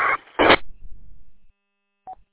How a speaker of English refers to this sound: Hey, a squawk when you're on key. We were just trying to figure out what the squawk was. Didn't sound like NBC. It sounded like something else. Just wondered what you were running for a squawk at the end.